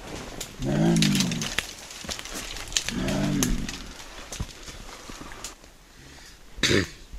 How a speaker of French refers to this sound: Elle tousse. À tes souhaits. Ils toussent comme des personnes.